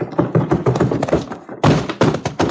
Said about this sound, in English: someone was heaved right through the doors of that saloon by the bouncer.